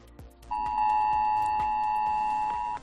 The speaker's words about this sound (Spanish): Y en algunos casos se repitió, a la mayoría dos veces, otros hasta 5 veces sonó su móvil. Fue la prueba del sistema de alerta de aviso masivo a la población que hizo vibrar y sonar los móviles, incluso los que estaban en silencio.